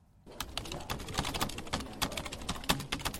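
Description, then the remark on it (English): Rapid, uneven clicking of fingers typing on a laptop keyboard, fairly loud, starting after a brief silence and continuing steadily with no one speaking. “You're in a business meeting making confidential notes on your laptop, but by simply placing a smartphone on the table, researchers in Texas have shown they can find out what you're typing from the sound of your keystrokes.”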